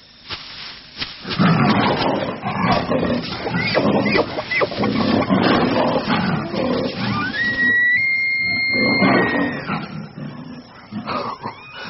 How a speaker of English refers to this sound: I had no idea what the tiger had leapt on other than, crucially, not me.